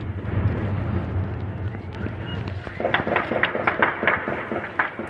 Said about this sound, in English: The sound of gunfire on the streets of the coastal city of Latakia today.